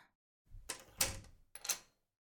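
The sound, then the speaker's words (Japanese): A front door swings shut with a rattling thud, then a moment later a sharp metallic click as the lock is turned. No one speaks. “相手してやるから、玄関鍵かけて上がってきて。”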